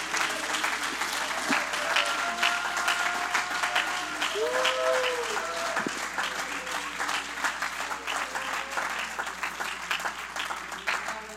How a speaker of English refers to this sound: Could you give the Lord a hand clap of praise this morning?